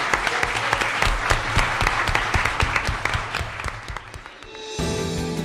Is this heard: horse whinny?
no